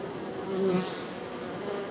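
honeybees buzzing

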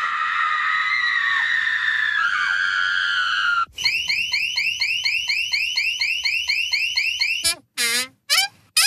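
alarm ringing

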